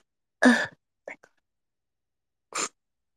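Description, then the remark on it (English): A sharp sneeze bursts out, followed by a couple of soft breathy sniffs and then a second, shorter sneeze-like burst about two seconds later, with quiet between. “Oh, I have to sneeze too.”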